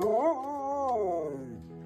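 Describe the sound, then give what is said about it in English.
A single drawn-out meow by Dakota, who learned to meow from her canine sibling, fairly loud, rising briefly and then sliding slowly downward in pitch for almost two seconds, with no talking around it. “Our honorable mention this week goes to Dakota, who learned to meow from her canine sibling.”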